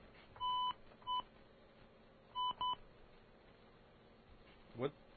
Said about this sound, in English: Oh, you see, you got to dial fast these days. You can't just think about dialing.